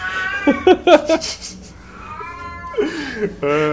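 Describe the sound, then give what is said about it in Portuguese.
A cat meows repeatedly, a string of loud, wavering yowls with short pauses between them, ending in a long drawn-out cry. “Por que que os gatos são assim?”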